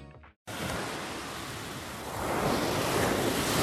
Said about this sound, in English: Well, apologies for the sea noises, but this is the analyst with a difference, because I'm in Greece, so this is, I suppose you could call the analyst inside Crete. Anyway, I'll fade out the sea noises